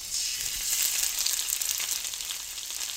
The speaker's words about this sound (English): You make this dough with the corn, somewhat like masa, which is used to make tortillas. And it comes through the holes in the machine in ribbons. And he stood there with scissors and cut the ribbons and had them fall into the vat of hot fat.